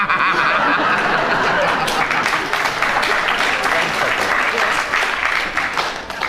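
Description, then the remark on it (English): Sustained audience applause, a dense crackle of many hands clapping at a steady loud level for several seconds, with a few faint laughs mixed in before it starts to taper off at the end. “I think from the applause that they're... audience agrees with you.”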